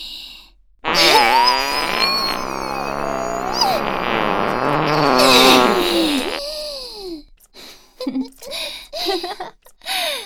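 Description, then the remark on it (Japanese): A long, loud, buzzing fart runs for about five seconds, its pitch wobbling and shifting as it goes, followed by a few brief breathy vocal sounds. “出る出る、おなら出る。 私も太いおなら出そう。”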